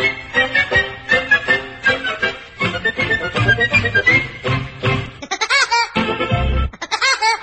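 A bouncy novelty song with a cartoon woodpecker's laugh, a rapid, high, staccato cackle that bursts out repeatedly over the music, loudest near the end.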